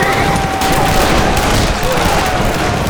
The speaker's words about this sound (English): Men grouped around the campfire fired away, more guns joining in.